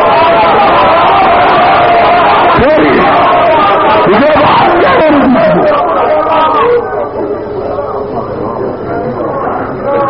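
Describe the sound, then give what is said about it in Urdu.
A large audience at a religious speech shouts loudly in unison, voices massed together in chanted slogans, continuous before easing slightly toward the end. “میں نے پہلے عرض کیا ہے کہ آپ اٹھے نا نعرے بھی نہ لگائیں.”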